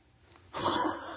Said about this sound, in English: I'm fighting this cough. How many of you guys are fighting kind of a cough? Man, there's stuff going around.